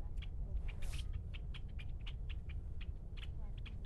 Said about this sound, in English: Little chipmunk. Oh, it's a bird.